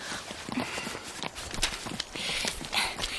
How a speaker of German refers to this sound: die Hinterhufe unserer Pferde sind doch fast noch auf der Wiese. Jetzt nicht mehr.